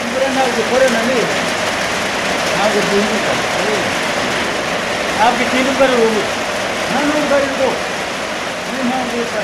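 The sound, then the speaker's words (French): Hail falls steadily, a dense, hissing patter drumming on surfaces throughout, with faint voices murmuring underneath the constant wash of impacts. “C'est de la grêle, c'est plus de la pluie.”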